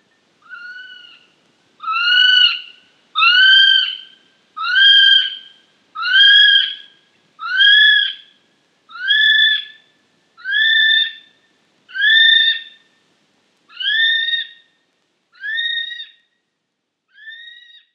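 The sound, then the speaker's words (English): A kiwi calls a long series of about a dozen shrill, piercing whistles, evenly spaced and loud, rising in strength then fading slightly toward the end, with no other sounds. “Kiwi.”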